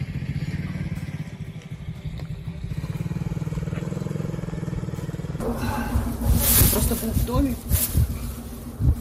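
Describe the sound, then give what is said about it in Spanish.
A small motorcycle's buzzing engine drones steadily for several seconds on a rubble-strewn street in Ukraine, then gives way to louder, noisier street clatter and scattered voices as it passes. “Lo han visto, ha pasado la moto pequeña, le han preguntado si el bulto era su hijo muerto.”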